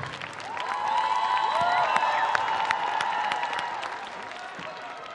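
A crowd applauds a music group steadily for several seconds, dense overlapping clapping mixed with cheering and a few high whistles, swelling slightly in the middle and holding loud throughout.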